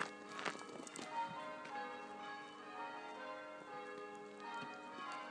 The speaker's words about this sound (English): These are the bells of the church in Warbleton, which is in East Sussex, sort of somewhere between Battle, Heathfield and Robertsbridge, Etchingham, Burwash.